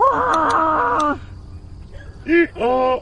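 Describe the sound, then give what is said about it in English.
A donkey, or burro, brays: a long, loud, harmonic call, then after a brief quiet pause two shorter rasping honks close together. “Donkey! Come on, donkey!”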